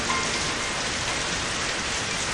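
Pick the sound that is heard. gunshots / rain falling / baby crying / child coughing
rain falling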